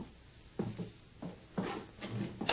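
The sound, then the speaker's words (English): A back door being opened, with a series of clunky rattles and knocks from the latch and handle, about five short bursts spread over a couple of seconds. No voices. “Open the door.”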